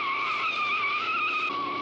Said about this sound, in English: The cop car pulls forward and Herbie rocks violently. He reverses, his tires smoking as he pulls the cruiser backward.